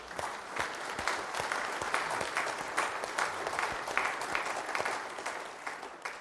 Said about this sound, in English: And join me in applause for all of you.